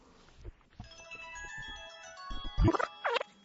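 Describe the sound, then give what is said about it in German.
A mobile phone ringtone plays a steady electronic melody of sustained, bright tones, with soft thumps underneath, ending in a louder warbling, swooping burst near the end. “Ist das dein Handy? Meins ist das nicht.”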